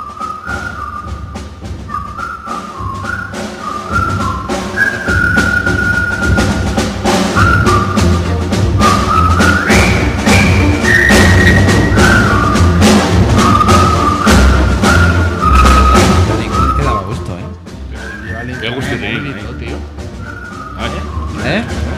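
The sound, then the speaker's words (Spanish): A group of English soldiers whistles a jaunty march tune in clear, stepped notes over a dense, steady backing that stays loud throughout, briefly dipping before the melody picks up again. “Qué bien entonaban los silbidos los ingleses, los soldados ingleses.”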